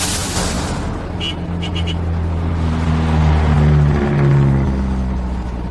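A bus engine rumbles steadily as the bus drives along a forest road, a deep continuous drone with a tonal hum that rises and falls slightly, plus a few brief rattles early on. No one speaks.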